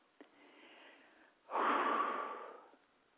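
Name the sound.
deep breathing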